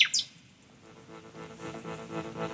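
A nightingale opens with a quick burst of bright, high whistled chirps. Quieter, lower tonal sounds follow and carry on to the end, with no one speaking.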